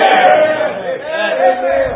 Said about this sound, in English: Say, my Lord, man, how come these people shouting? Because God's been good to us.